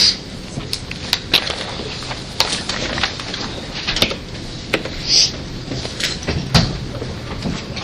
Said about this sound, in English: So I'd ask guests to please leave. Sorry, camera, and you can open the door. Thank you very much.